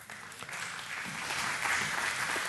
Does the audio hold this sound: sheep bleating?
no